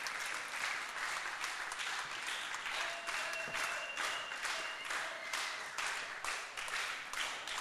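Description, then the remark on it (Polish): Sustained audience applause calling for an encore, a dense steady wash of many hands clapping at once, fairly loud and continuous throughout with faint tonal sounds threading through. “A ty co nie klaszczesz?”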